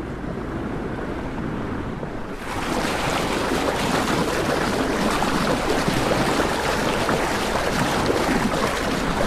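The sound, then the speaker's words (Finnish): A boat's bow rushes and hisses steadily through the sea on its way toward Juha Nurminen's pier, loud, the surge swelling stronger after the first couple of seconds, with some wind buffeting underneath. No one speaks. “Kokka kohisee ja nyt mennään kohti Juhan laituria.”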